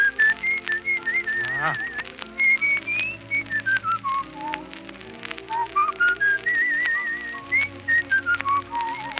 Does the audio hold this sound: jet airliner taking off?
no